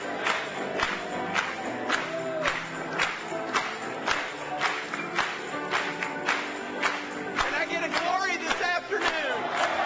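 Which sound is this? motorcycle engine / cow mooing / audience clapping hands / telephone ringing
audience clapping hands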